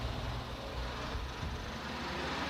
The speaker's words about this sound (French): Have you got right money? Oh, here's the bus here.